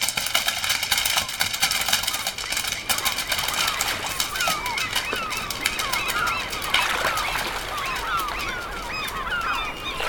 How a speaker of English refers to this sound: Chickens. Shut up with that.